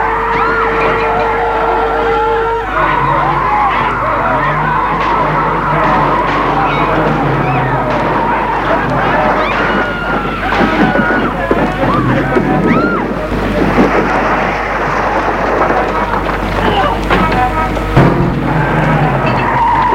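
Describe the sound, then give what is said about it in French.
An ambulance with two nurses inside skids and spins out in all directions: loud, continuous tire screeching and squealing over a rumbling engine and rattling, with shifting pitches swirling throughout the twenty seconds. “L'ambulance va dans tous les sens, tout tourne, les deux infirmières se cognent”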